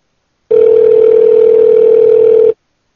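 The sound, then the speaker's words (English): A single ring tone over a phone line, a steady, buzzy two-second drone heard through the earpiece while a call connects, with silence before and after and no voices. “Well, it's ringing, at least.”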